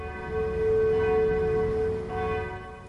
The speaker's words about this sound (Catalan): Les campanes no paraven i el canó anava disparant, però només se sentia aquell soroll. No en sortia cap bala, no en sortia cap explosió. L'eco, amb 100.000 veus, anava ressonant per muntanyes i valls.